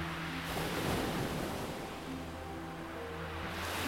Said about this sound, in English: You walk slowly along the sand, taking in the lovely views as you listen to the gentle lapping of the ocean waves as the tide moves out and away from you.